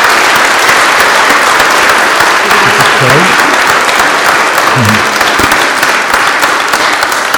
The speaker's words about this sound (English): And so let's give these two a wonderful round of applause. Shall we?